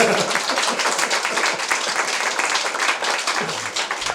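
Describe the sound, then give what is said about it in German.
A crowd of guests applauds steadily to welcome the head of the Habanower Hofcafé, a dense wash of many hands clapping at an even, loud level throughout, with a faint voice briefly audible near the end. “Liebe Gäste, begrüßen Sie mit einem riesigen Applaus den Chef des Habanower Hofcafés,”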